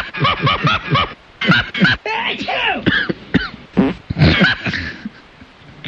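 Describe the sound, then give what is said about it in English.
A sneeze, a cough and a fart in quick succession, loud, mixed with snickering, throaty vocal noises that fill the gaps between the bursts. “The sneeze, cough, fart triple play there, huh?”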